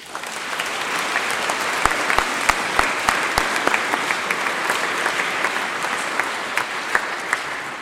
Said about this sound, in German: Den darf man ruhig mal jetzt klatschen. Ne?